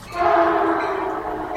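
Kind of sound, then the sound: vehicle, passing train with horn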